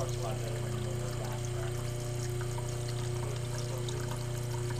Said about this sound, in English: What we're doing now is just relieving the pressure off this filtration canister so we can get the lid off and change our filter.